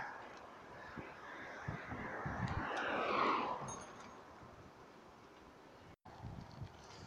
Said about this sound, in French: On va espérer que le vent se coupe, parce que j'avais oublié ce petit facteur.